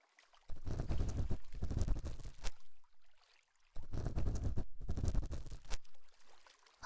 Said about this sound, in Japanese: 私の好きなこのせせらぎの音、チャポンチャポン、聞きながら膝枕をして